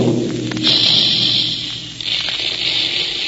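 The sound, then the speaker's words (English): Big Quaker cereal puffing guns exploding kernels of wheat and rice to make Quaker Puffed Wheat and Quaker Puffed Rice: after a brief low rumble, a loud, steady hissing blast bursts in and roars on without pause, with a deep hum beneath it. No one speaks. “That's the sound you hear when the big Quaker guns are making puffed wheat and puffed rice.”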